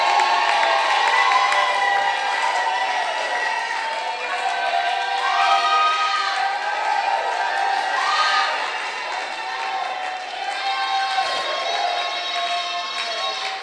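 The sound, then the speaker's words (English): A loud crowd of young men shouting and cheering together, many voices overlapping in a continuous, energetic roar with rising whoops throughout, sustained without any pause. “Look at how I'm shouting. And young men are doing jolly, jolly shouting.”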